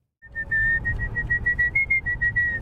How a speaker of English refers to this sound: For many people, there's nothing like a good whistle to pass the time.